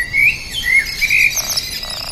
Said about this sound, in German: Wie zum Beispiel auch bei diesen Vogelklängen, die teilweise elektronisch erzeugt wurden. Sie werden durch Solarenergie zum Klingen gebracht und tönen im Rhythmus der Wolken.